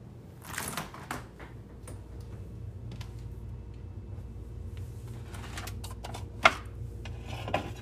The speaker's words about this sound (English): This first sound is my washer and dryer in my basement, and it just makes me think of doing laundry,